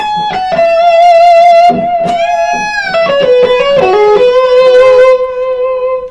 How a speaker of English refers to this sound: This is quite a pedal. It will. So I would call that a high gain overdrive. It doesn't quite get into distortion, but it can be very smooth